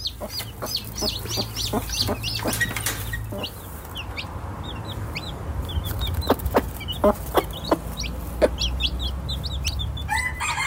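Newly hatched chicks cheep in rapid, high-pitched peeps throughout as they break through their eggshells, with occasional sharp clicks, while a mother hen murmurs low, soft clucks beneath a steady background hum.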